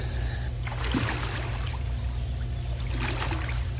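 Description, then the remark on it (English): Intermittent water splashing from someone treading water in a pool, a few soft bursts and sloshes rising over a steady low background hum, with no one speaking. “So you start treading water, and here's what happens. All right. Let's start treading water.”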